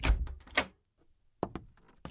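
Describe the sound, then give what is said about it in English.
A woman opens the door to a room with a table and two chairs: a cluster of sharp clicks and thumps from the handle and latch, a brief quiet pause, then a few more clattering knocks as it swings. “She opened the door to a room with a table and two chairs.”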